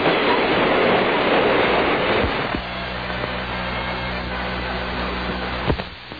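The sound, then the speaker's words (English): A train at a crowded railway station: a loud, rushing hiss for a couple of seconds, then a steady low mechanical rumble punctuated by a few sharp clanks, with no talking. “Gee, the station is crowded.”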